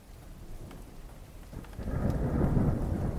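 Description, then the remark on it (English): Steady rain hisses throughout, with a low rumble of thunder swelling and growing louder in the second half, filling the space with a deep, rolling roar beneath the patter. “It's raining now.”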